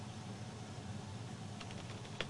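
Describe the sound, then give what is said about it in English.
A few faint, quick keystrokes on a computer keyboard clatter near the end as a search phrase is typed, set against a steady low hum and background hiss, with no voices. “you can find just by typing Republicans are panicking because”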